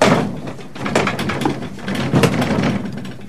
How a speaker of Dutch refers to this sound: Ik doe een raam open.